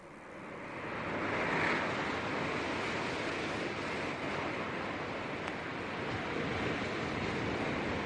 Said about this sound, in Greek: Θέλω κύματα της θάλασσας. Ωραία. Πάτησε τότε αυτό το κίτρινο κουμπί που είναι μπροστά σου.